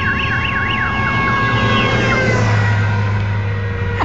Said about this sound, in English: He turned on his car alarm. How did you do that while you drive?